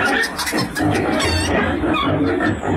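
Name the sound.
hens clucking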